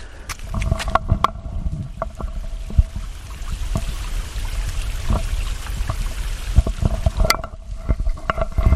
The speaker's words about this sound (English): So you heard the stream there, I suppose, and Not too many frogs.